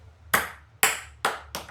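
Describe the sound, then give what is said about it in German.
A ping pong ball bounces four times in quick succession, each bright, clicky hit coming sooner than the last, ending as it drops into a beer glass, a tasting glass rather than the targeted one, during a drinking game where players bounce the ball into the other side's glasses. No one speaks. “Er ist in einem Bierglas gefallen, aber nicht das Richtige.”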